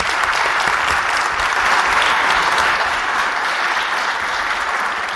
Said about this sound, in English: let's give him all a round of applause as he comes up to meet people.